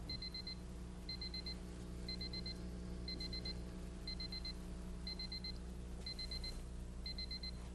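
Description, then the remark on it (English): An electronic alarm clock beeps in quick clustered bursts, about once per second, eight times in a row, fairly quiet over a steady low hum, with no one speaking. “It sounds like an alarm clock.”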